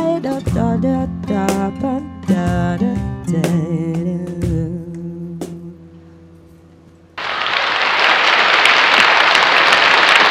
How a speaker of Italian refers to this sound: Gli applausi sono simulati, ma vi posso assicurare che dall'altra parte del vetro il nostro pubblico è contentissimo e ha apprezzato l'esibizione.